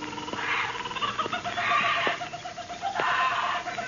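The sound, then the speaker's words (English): Agitated birds squawk and cluck in a steady, noisy chorus in a huge aviary at one corner of old man Kelso's house, with bursts of harsh calls rising and falling over a few seconds, moderately loud. “Something had disturbed the birds.”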